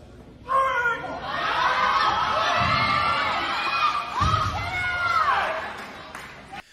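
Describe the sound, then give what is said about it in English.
A crowd of women cheers loudly for a male athlete competing against women in a strength event during a national record attempt, with overlapping high-pitched shouts and whoops rising and falling continuously for several seconds before fading at the end. “What's sad about this is you hear all these women cheering this biological man on.”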